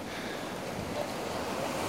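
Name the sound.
ocean waves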